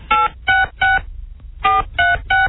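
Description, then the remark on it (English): Six touch-tone keypad beeps from a push-button phone, each a short, steady dual-pitched electronic tone, sounded in a quick group of three, a brief pause, then three more. “Touch tone, Larry. Push button.”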